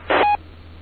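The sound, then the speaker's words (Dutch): A short electronic chime tone rings out at the start of a radio transmission with a brief burst of static, heard over a thin, band-limited radio channel with steady background hiss and hum. “Tjing. Mooi geluidje komt er vooraan.”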